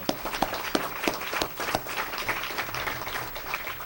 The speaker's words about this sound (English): We already gave you a glowing introduction, Mayor, but Tom Hanovan is the longest-serving mayor in Council Bluffs, and I think he does deserve a round of applause right now.